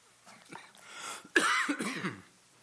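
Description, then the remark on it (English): A short bout of coughing from the speaker during a morning church service: a few soft, breathy hacks building to one sharp, loud cough followed by rougher throaty rasps, with no talking. “I'll try not to cough.”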